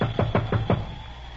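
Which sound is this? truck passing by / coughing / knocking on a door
knocking on a door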